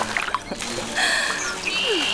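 Water rushes and splashes steadily in a pond beside a mill dam at sunrise, a continuous wash of sound, with a few thin high whistling tones drifting over it.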